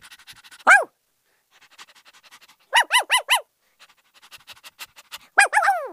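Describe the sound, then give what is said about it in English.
A neighbor's dog barks in short bursts: one sharp bark, then a quick run of four, then a final pair, with soft panting or scuffling in the pauses. No one speaks. “He yells his dog might bite me, but he'll have to catch me first.”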